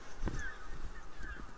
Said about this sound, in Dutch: Brandganzen.